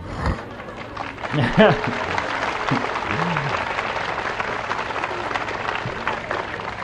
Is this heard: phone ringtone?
no